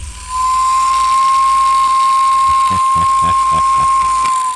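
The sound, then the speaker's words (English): A wind-up toy train's whistle motor running: a steady, fairly loud whistling tone over mechanical whirring, with rapid ratcheting clicks joining in toward the end. No one speaks. “This is the whistle motor, and I'm going to turn it on, and you'll be able to hear it.”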